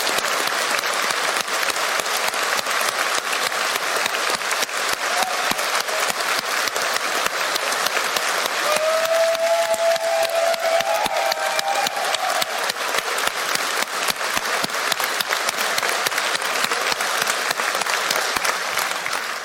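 Sustained audience applause for the event's volunteers, speakers and workshop leaders, a dense, even clatter of many hands clapping that holds steady at full strength for the whole stretch, with a faint whistle or cheer rising briefly midway.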